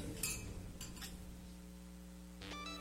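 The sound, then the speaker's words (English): Glasses clink together in a toast at a celebration: a few quick, bright taps, then one fuller clink that rings out briefly, all fairly soft over a low steady hum, with no talking. “Glasses up. I want to thank y'all for coming out to this gangster celebration.”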